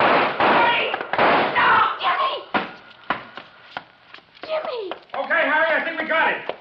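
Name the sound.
gunshots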